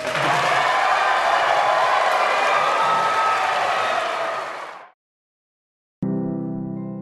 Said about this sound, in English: Whom we've asked to hold off on their partisan applause, so now we're going to lift that request and invite our audience here in the show ring at the Cattle Barn State Fair to applaud their candidates. Go ahead.